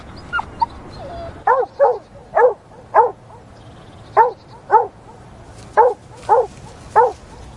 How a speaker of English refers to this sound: It sounds quite a happy bark. It sounds as if it's playing. To me, that sounds like you're just about to throw a ball for the dog, and there's that level of excitement. It's running all around you.